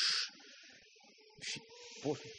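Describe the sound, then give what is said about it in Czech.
Half of an audience imitates a storm and waves at sea with their mouths, a loud hissing whoosh that fades, then quieter swells of shushing with a brief rumbling burst near the end. “Prosím vás, máme tady zhruba dvě poloviny a jedna polovina, tady tato polovina nám bude dělat bouřku nebo vlny.”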